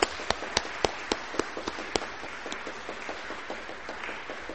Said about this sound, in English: And I know it's a lot of hard work, but we really appreciate the way that the children bought that story out. And so let's give our children just another round of applause.